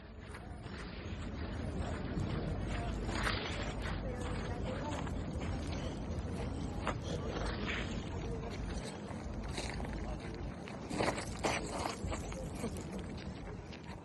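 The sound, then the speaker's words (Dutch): Shuffling footsteps of a person trying to walk on icy pavement along Unter den Linden at -8 °C, scraping and sliding with irregular gritty scuffs and short skids over a steady background of wind and outdoor noise. “En dat glibberen en glijden heb ik van mezelf even opgenomen.”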